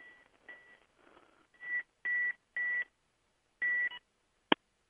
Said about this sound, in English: There we go, telephone. Wait a second.